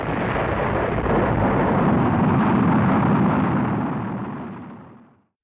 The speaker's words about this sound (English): Liftoff. A rocket flying into space makes lots of noise. The engine is so loud it hurts your ears.